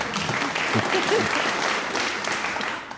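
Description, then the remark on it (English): A small audience gives a brief, lukewarm round of clapping, a steady patter of hands lasting about three seconds with faint voices murmuring underneath. “That sort of half-hearted clapping as well would be the sound I would make playing ping pong.”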